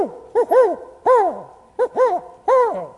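A spotted owl hoots in a clear series of rising-and-falling calls, short notes leading into longer ones, repeated rhythmically, with no voices present.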